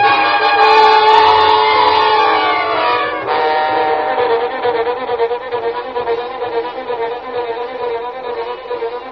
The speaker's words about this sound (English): train pulled away from the station